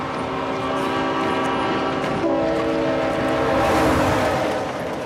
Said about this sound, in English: To get that last little piece with the train coming past McNulty, Dominic actually had to stand on the tracks. I was a little worried we were going to lose our lead actor in the pilot. It wasn't that close, but the train's a big thing,